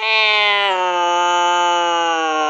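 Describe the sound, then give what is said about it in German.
A grumpy cat lets out one long, drawn-out meow, loud and steady in pitch with a slight dip early on, sustained for a couple of seconds with no other sounds. “Und wenn etwas wirklich furchtbar ist, wenn es bei uns durchfällt, dann bekommt es eine, ja, schlecht gelaunte Katze.”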